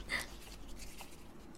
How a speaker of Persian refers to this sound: پس شماره مون یادداشت کن. خودکار داری؟ آره. ممنون.